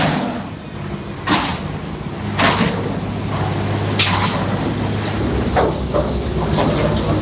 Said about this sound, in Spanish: Martillos neumáticos, taladros, camiones de obra, todos estos sonidos se han convertido en la banda sonora cotidiana de los vecinos que viven cerca de la A5.